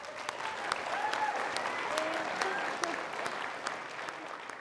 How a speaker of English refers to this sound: A crowd of 300 cheers